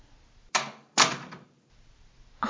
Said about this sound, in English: What are you doing? Why are you going through my drawers?